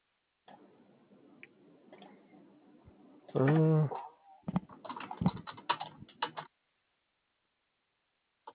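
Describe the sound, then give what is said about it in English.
Rapid, irregular clicking of computer keys as notes are typed about a customer's ticket, in a short burst, faint and slightly muffled, right after a brief loud tonal hum, with a soft background murmur. “They're literally typing about this ticket as we speak”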